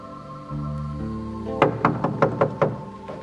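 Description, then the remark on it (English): A series of six firm knocks on a wooden door in a quick, slightly uneven rhythm over a low steady hum, with no voices. “Now, see, he's still knocking, but he can't knock much louder, or else he's going to draw attention to what's going on.”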